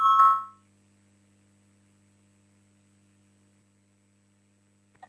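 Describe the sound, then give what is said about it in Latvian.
A short, bright electronic chime, a parliamentary voting bell called before a vote on a proposal, sounds once at the start, loud, then fades into a steady low hum of background noise with a faint click near the end. “Lūdzu zvanu balsosim par otro juridiskā biroja iesniegto priekšlikumu.”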